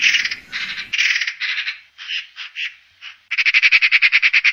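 A magpie's harsh, rattling chatter: bursts of dry, rapid notes in uneven groups, ending in a longer, steady machine-gun rattle. The call is clear, with no talking.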